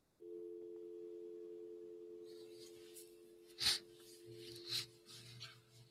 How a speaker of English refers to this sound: All right, I want to try something real quick with the phone here. Can you hear the dial tone? Nope. Yep. Now we can.